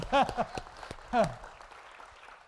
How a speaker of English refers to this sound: So the reality is we did. Now, go ahead and clap.